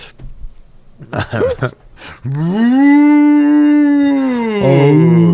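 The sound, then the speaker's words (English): A person imitates a whale, a few short vocal bursts giving way to a long, loud, low moaning call that holds steady for several seconds, then dips and wavers at the end. “Whale noises.”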